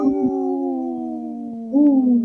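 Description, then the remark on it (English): A single long, steady wolf howl, loud, holding one pitch for about two seconds before lifting briefly near the end. No talking. “In this portion of the show, we like to bring awareness to our Minnesota wolf population.”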